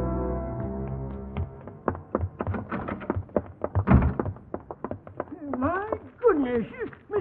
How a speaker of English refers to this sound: Door slamming all over the place.